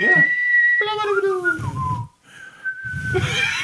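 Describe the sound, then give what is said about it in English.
A person whistles using lips and tongue, shifting the tongue's position to change the tones: a steady high note, then a wavering lower passage with pitch slides, then another long steady note, broken by breathy, rustling bursts. “Well, yeah, you gotta use your tongue. Ha ha! But that's what makes this. That's what makes the different tones. That's the tones, not what makes it a whistle.”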